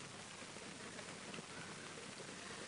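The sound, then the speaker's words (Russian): Many feet stomp rapidly and continuously on a floor in a group rain-imitation exercise, marking the rain growing heavier. The stomping blends into a steady, dense patter that closely mimics a heavy downpour. No one speaks over it. “Дождик еще усиливается.”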